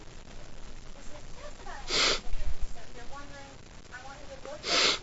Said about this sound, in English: Sneeze my head off here.